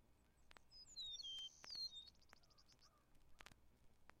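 A meadowlark sings a bright phrase of clear, slurred whistles that ends in a quick fluttering trill, heard alone over a low hiss with scattered clicks and pops, from a 1950s Cornell recording on the album an album.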